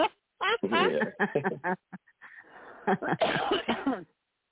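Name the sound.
coughing and throat clearing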